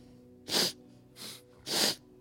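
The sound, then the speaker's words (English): A voice imitates a creature sniffing: three short, breathy sniffs in an uneven rhythm, the first and last louder, the middle one softer, with no other talking. “And it starts sniffing.”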